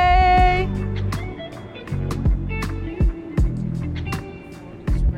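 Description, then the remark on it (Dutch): A steady low engine drone with harmonic hum, broken every second or so by hollow thumps of the hull knocking over small waves, fairly loud, heard while riding aboard a boat. “Zo, we zitten gewoon nog steeds op een boot.”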